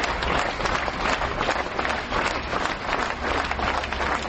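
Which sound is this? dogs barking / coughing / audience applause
audience applause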